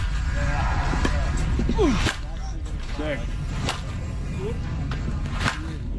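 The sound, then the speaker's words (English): A baseball bat cracks against the ball as Tigers hitter Spence, nicknamed Torque, takes spring training batting practice: about five sharp, loud hits at irregular intervals, with murmuring voices and steady background noise underneath. “He is smashing that ball.”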